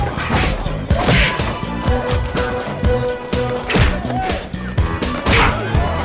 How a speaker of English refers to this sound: And we get the world's most ridiculous, massive bar fight where everyone's punching everyone. And let me play some of the punches for you. Have a listen to this.